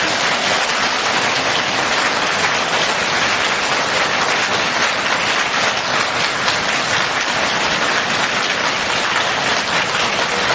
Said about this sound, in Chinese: 现在尊敬的卢军宏台长将为我们慈悲开示，让我们用最热烈的掌声恭请我们尊敬的卢军宏台长。